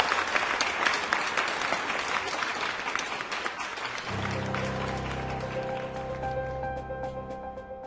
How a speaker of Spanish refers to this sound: ¡Así es! ¡Aplauso para todos!